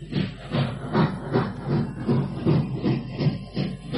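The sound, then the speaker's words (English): A train chugs away with steady rhythmic puffs and hissing, about eight regular beats that stay fairly loud, with no voices over it. “Get on the train!”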